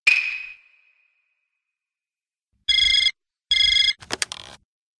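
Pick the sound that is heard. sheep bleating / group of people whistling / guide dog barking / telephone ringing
telephone ringing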